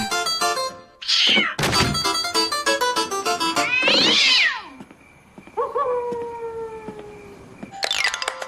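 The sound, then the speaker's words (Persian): A cat meows restlessly, about four loud, drawn-out cries rising and falling in pitch, interleaved with bright plucked harpsichord notes, performed as a sonata in G for harpsichord and restless cat. No one speaks. “به عنوان قطعه بعدی میخوام سونات در سل برای هارپسیکورد و سگربه بیقرار رو اجرا کنم.”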